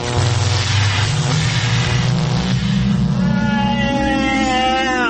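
A time machine powering up: a loud, continuous mechanical whir over a low rumble, its pitch climbing steadily upward for several seconds with no talking.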